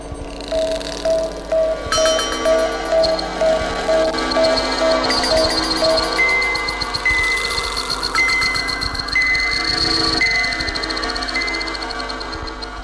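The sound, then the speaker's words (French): A toy space station emits echoing electronic messages: a steady run of repeated mid-pitched bleeps over a dense, buzzing bed of synthetic tones, later shifting to higher warbling signals, with no voices. “Tout d'abord, écoutez les échos de cette mini-station spatiale diffusant ses messages.”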